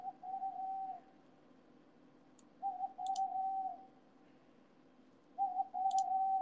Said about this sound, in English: Okay, look, owl. I don't have time for you now.